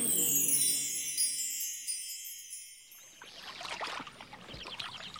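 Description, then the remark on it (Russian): A shimmering, chime-like swell rings out and fades, then river water flows and splashes at a moderate level on a riverbank, with no voices. “Мы опять на берегу реки и совсем не мокрые.”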